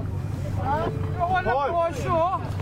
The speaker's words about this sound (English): So one of the boys has fixed the engine and all that trouble has been sorted out. And so we're just leaving Kinsale Harbour now, and it should take us about 20 minutes, 25 minutes